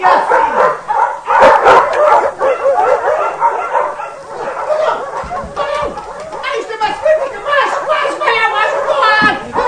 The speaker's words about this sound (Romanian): Ce vreau, vrei să-i sfâșie câinii? Mulțumesc, stăpâni, că ți-ai chemat cotarele.